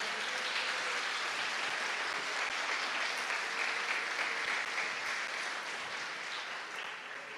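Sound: audience applauding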